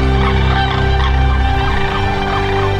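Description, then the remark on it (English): A dense chorus of sandhill cranes near Birchwood, Tennessee, many birds bugling and rattling at once in a continuous, loud, overlapping wall of sound with no talking. “The Sandhill Crane Festival is a yearly celebration to celebrate the return of that bird in these great numbers.”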